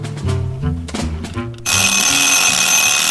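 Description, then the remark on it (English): A kitchen timer goes off with a loud, continuous metallic bell ring after a brief run of tonal notes; the rattling ring fills the second half without letup. “There goes the timer.”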